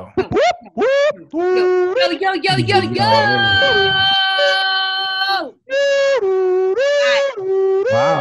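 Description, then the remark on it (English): A voice imitates an ambulance siren: loud, sustained wailing tones that rise and hold, then alternate between two pitches, with a brief bit of other vocal noise partway through. “I live on Grand Concourse and I hear that every day, all day. The ambulance, bro.”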